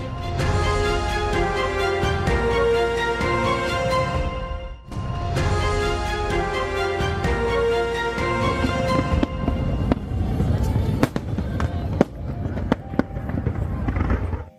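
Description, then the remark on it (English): Independence Day fireworks pop and boom in a rapid, irregular string of sharp bursts, growing denser toward the end, heard over a steady tonal backdrop that sounds like music or a crowd. “Macy's launched 60,000 fireworks last night in New York.”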